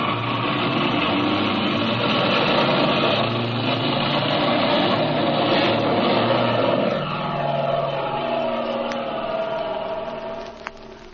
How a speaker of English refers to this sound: Mother, look, I think that's Jimmy's airplane. Off to the west there, see? Your eyes are better than mine, child. I don't see anything. Yes, I'm sure it's their ship. I guess you're right. I can hear it now. See, they're coming down low,